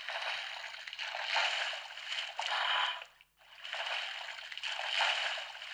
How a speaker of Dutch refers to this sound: En dan sla je dat flapje van de golven open en dan hoor je een nijlpaard plonsen. En dat is misschien wel leuk om even te laten horen hoe je dat nijlpaard moet plonsen.